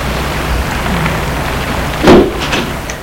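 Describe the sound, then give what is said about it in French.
An automatic door at a company headquarters building, opened with an access card in the dark, slides open in one brief whooshing burst with a low thump partway through, rising out of a steady hiss of background noise. No one speaks. “La porte s'ouvre automatiquement.”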